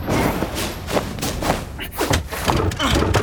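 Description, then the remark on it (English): A trap door in an opera house slams shut with a series of loud, heavy thuds in quick succession, while muffled voices and rustling carry on underneath. “The trap door. I can't open it.”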